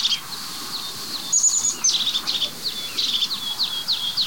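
crested tit call

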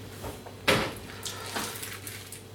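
door opening

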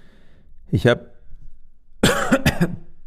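coughing

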